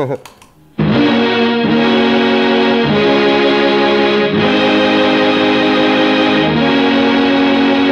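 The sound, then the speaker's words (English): Electric guitar run through a Mel 9 keyboard-emulating pedal plays thick, sustained organ-like chords that swell in after a short quiet start and shift every second or so, loud and continuous with no talking. “So from there, I think it goes to the Mel 9, and that's just so we don't have to hire a keyboard player.”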